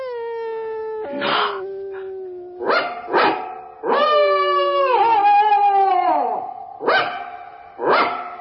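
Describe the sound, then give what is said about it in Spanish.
A Scottish terrier howls at night in the yard of a house, long wavering tonal cries broken up by several short sharp barks, with no other voices or background noise. “Ahora nos toca a los perros. Usemos el aullido nocturno.”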